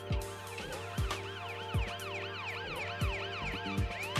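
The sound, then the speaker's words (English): Rising and falling siren wails, part of a tango remix song rather than a real siren, sweep repeatedly over steady sustained music, punctuated by regular deep thumping beats; loud, with no voices. “That's the song. There's no siren coming up behind you.”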